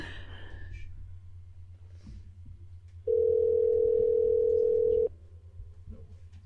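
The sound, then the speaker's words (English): A steady telephone dial tone hums loudly for about two seconds as someone calls back after hanging up, then cuts off abruptly, with faint breathing and low background rumble around it. “I hung up. We're calling back.”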